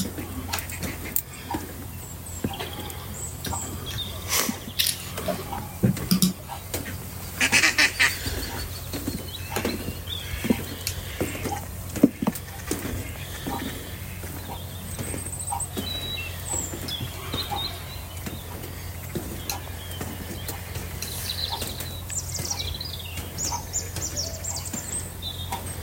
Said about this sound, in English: Let you soak in the sounds of dusk. It's a concerto of birds chatting away to each other, to themselves, maybe like me. Stunning.